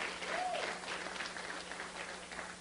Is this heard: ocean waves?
no